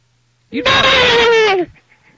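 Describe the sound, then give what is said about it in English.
A person lets out one loud, drawn-out bellowing call lasting about a second, imitating a moose, its strained pitch sliding slightly downward before cutting off into quiet. “That's a burning moose. I don't know. That was like a horse or something.”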